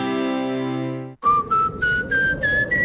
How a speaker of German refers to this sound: Durch ihre Haustür pfeift's, dann ist sie wohl nicht ganz dicht.